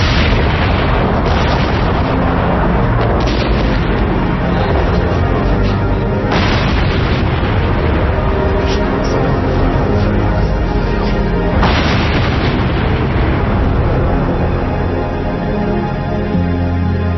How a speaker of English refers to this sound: Missile launch right, 3 o'clock.